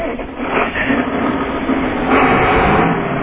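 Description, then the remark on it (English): A big tractor engine runs steadily with a loud, continuous rumbling roar and gritty mechanical noise, swelling slightly louder partway through, with no voices over it, as the farmer drops big round bales to cattle. “Do you have any noise you could make now on your tractor?”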